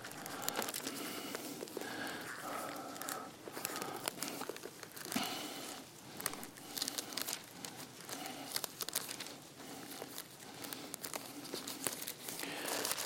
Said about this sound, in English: I want everybody to turn to Hebrews chapter 5 for a moment. I want to hear the pages turning. Hebrews chapter 5.